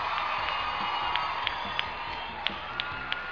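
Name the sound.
audience applause and cheering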